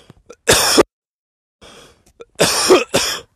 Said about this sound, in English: Got a pretty good cough off that one, actually.